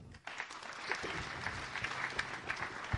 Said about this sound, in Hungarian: Köszöntöm Kései Ajnát, háromszoros ifjúsági olimpiai bajnok úszónkat, aki egy nagy tapsot megérdemel.